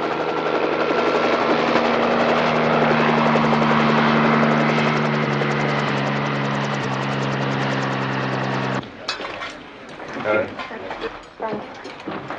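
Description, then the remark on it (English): A helicopter arriving with wounded roars, its rotor drone loud and steady for several seconds, then cuts off abruptly into a quieter stretch of indistinct voices and movement. “Incoming wounded. First medical team report to the chopper pad.”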